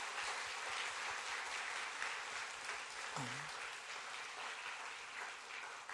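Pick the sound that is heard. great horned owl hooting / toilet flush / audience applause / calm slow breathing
audience applause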